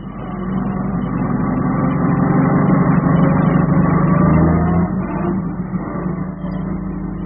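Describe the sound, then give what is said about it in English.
An old jalopy car engine runs steadily with a low, rumbling drone and a faint rattle, its pitch dipping briefly near the end before settling back into a constant idle. No one speaks. “Let's go and look at what he's done to that poor old Jalopy of his this time, shall we?”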